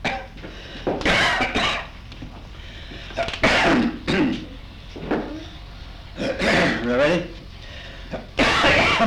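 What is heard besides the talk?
coughing and throat clearing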